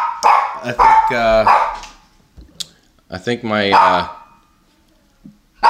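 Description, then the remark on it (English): A dog named Rebel barks loudly in two long, drawn-out bouts with a whining, almost howling tone, separated by a pause and a few short, sharp yaps, ending on one more abrupt bark, as a personal care worker comes in the door. “Oh, here goes Rebel. Someone's out the door. What's he fired up about?”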